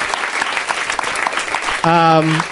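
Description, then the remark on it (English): Steady audience applause for a show's guests, a dense crackle of many hands clapping, with a loud sustained cheer-like tone cutting in over it near the end. “Let's one more round of applause for my guests.”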